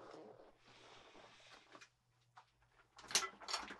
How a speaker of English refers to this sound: Hold on. I got to turn my chair around.